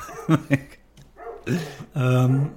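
A dog barks several times: two quick sharp barks, a pause, then a couple more, ending in a longer, drawn-out bark.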